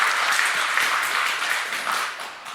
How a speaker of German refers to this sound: Genau, erstmal einen vielen, recht schönen Applaus für unsere Vortragenden. Ja, danke schön.